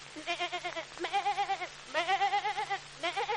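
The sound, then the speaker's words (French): A voice imitates a goat bleating, four wavering, quavery bleats in a row, fairly loud, separated by short pauses, with a faint steady hum underneath. “Une chèvre qui porte ses cornes elle-même.”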